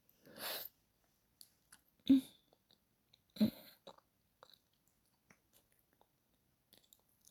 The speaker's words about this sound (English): Let me lap up what's still spilling from your little cut.